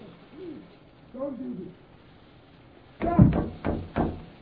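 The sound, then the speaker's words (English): Several heavy, loud thuds of a fist pounding on a door arrive in a quick irregular burst near the end, after a few soft, muffled cooing or voice-like sounds. A man outside, Mr. Echo, a priest, is pounding on the door. “The man out there pounding on the door.”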